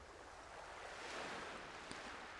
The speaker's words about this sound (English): Hear the sound of the waves softly lapping, the pull of water in and out, easy, rhythmic, ebb and flow, the ocean's breath, in and out.